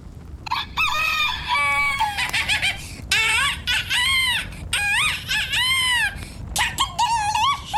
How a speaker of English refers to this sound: All right, pretty close to this rooster right now. I'm a rooster. Come closer.